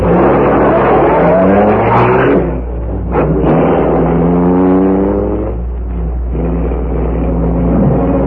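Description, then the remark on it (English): A car engine revs loudly, its pitch climbing and falling through several gear changes as the car pulls away from a building's entrance to drive to the rear. No one speaks. “You take the car onto the rear.”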